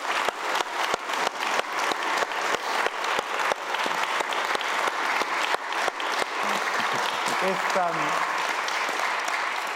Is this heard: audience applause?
yes